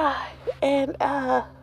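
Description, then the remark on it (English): A drawn-out, voiced yawn lasting over a second, with a breathy, wavering tone that dips briefly in the middle before stretching out again, fairly loud and on its own. “I yawned.”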